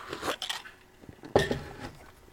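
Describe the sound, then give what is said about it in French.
Someone takes a sip of coffee from a cup: a few short, crackly slurping bursts, then a sharper clink-like sound midway, fairly quiet, with no talking. “Je vais prendre une gorgée de café, ça vous dérange pas.”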